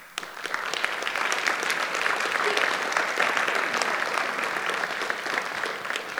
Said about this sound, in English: I'm just going to keep going because you guys are going to keep clapping, so I don't want to leave anybody out as long as we're doing this.